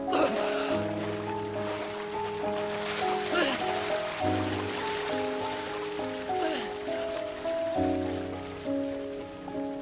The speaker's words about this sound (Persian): مثل این که بارون نمیخواد بند بیاد.